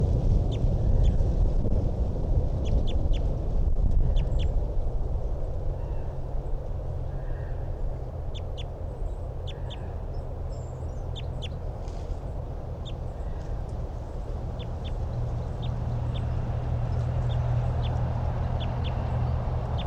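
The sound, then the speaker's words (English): A male bird close by calls again and again in short, sharp, high-pitched notes, spaced irregularly across the whole clip over a steady low rumble, with no talking. “And anyway, this is the male that's close by.”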